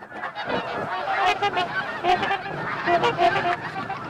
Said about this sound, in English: Yesterday, they counted over 30,000 geese. Smaller flocks of half a dozen or so tundra swans flank the geese, their own honking adding to the cacophony.